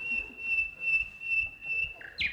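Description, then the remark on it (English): A whistled English bird call: a sustained high, thin tone that swells in regular pulses about twice a second, ending with a brief higher chirp. No one speaks. “An English bird in full-throated cry.”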